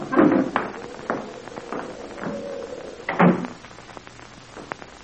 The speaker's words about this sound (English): Hey, the door blew open. I'll shut it.